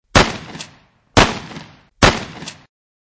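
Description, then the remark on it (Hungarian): Three loud gunshots fired inside a church at the praying priest Father Andrea Santoro ring out alone, spaced about a second apart, each a sharp crack followed by a brief fading echo, with no voices. “Lövés dördült. Háromszor.”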